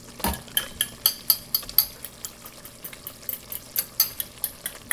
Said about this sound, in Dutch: Ondertussen breekt ze in een kom enkele groene eieren en klutst ze alsof het keukengerei muziekinstrumenten zijn.